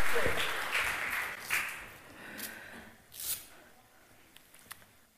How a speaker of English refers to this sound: Can you give a round of applause for us, please? Thank you.